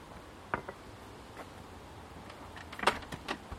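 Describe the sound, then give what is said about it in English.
A door that had not been closed properly is blown open by strong wind with a sharp clatter, then a louder knock and rattle follows a couple of seconds later, all over a steady low rush of wind noise. “No, like doors just blew open.”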